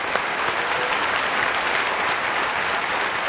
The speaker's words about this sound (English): Can you join me in applauding them and just say thank you?